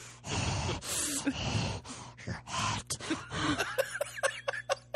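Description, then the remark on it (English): Someone imitates a prank caller's heavy breathing, with long, loud, raspy breaths at first, then quicker, shorter huffs toward the end, like mock panting. “I get those heavy breathers.”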